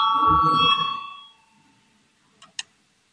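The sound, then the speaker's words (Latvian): A loud voting bell in the Saeima, the Latvian parliament, rings with a steady electronic tone over low rumble, calling a vote on proposal 222, then fades out, followed by two short sharp clicks in the quiet. “Lūdzu zvanu balsosim par 222 deputāta Valaini priekšlikumu.”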